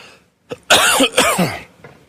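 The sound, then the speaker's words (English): A loud cough: a short sharp bark followed by two heavy, raspy coughs in quick succession, then a faint breath as it trails off. “Had a coughing fit that you probably remember if you were here.”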